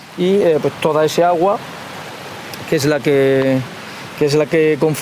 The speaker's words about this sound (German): Von der Rambla aus fließt das Wasser in die Lagune hinein und damit auch Nitrat und Phosphat aus der Landwirtschaft